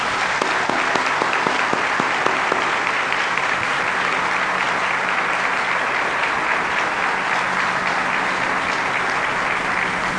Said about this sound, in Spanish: Y yo creo que la manera más adecuada de celebrar esto es con un gran aplauso,